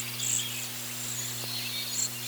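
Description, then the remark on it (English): High, thin, buzzy trilled notes from cedar waxwings, repeated in several soft wheezy bursts over a steady low electrical hum, with no talking. “Cedar waxwings sound like tiny mice snoring.”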